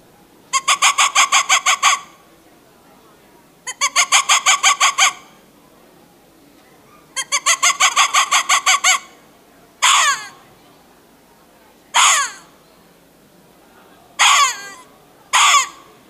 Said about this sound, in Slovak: Takže aj líška, je to psovitá šelma, vydáva takéto štekavé zvuky, buď to kau, to výstražné, alebo ten teritoriálny hlas toho líšiaka.